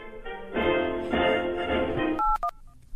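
A steady, buzzy electronic tone holds for a couple of seconds, then gives way to a short burst of three or four quick telephone keypad beeps with faint clicks.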